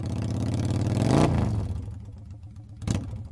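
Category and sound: vehicle, motorcycle engine revving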